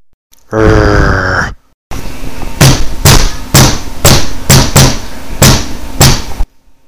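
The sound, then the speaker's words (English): A short strained yell, then a rapid, evenly spaced run of about eight sharp slapping smacks over a loud, scuffling background of noise, like blows landing in a brawl. “Be prepared to feel the wrath of my super bitch slapping skills.”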